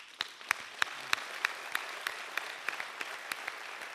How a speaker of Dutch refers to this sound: Het is vandaag ook fantastisch georganiseerd om alle mensen van het Algemeen Secretariaat te bedanken en een applaus te geven.